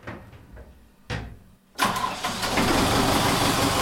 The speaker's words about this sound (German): Das ist der Hilfsdiesel für Strom 220 Volt und 280 Volt.